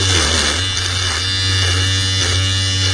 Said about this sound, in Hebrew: מכונת תספורת. נכון, מי אמר?